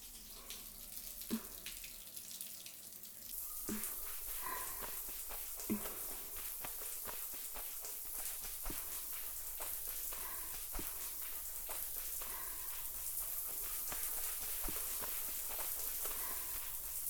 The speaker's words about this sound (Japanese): お疲れ様でした。それでは泡を流していきますね。